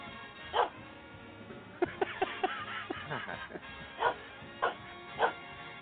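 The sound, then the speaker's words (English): A dog barks repeatedly in short, sharp yaps, a quick cluster early on followed by a few spaced-out barks, fairly loud against a faint background murmur. “Dopey dog.”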